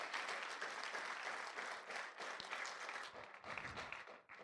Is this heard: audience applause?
yes